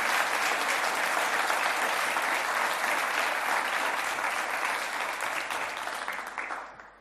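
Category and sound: crowd, applause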